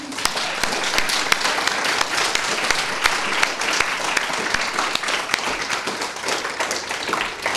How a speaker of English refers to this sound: Well, in my opinion, this has been an incredible afternoon. And if you agree with me, give a really loud and warm applause for all of the women who've participated.